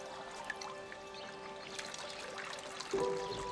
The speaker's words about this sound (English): Bending toward a fountain set in a wall, he cups his hands to gather the water drizzling from an angled spout.